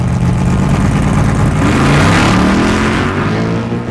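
A street racing car's engine revs hard and accelerates at the start of a race on a road outside Lancaster, its pitch climbing steadily over a few seconds with a dense, loud roaring growl, then easing slightly at the end.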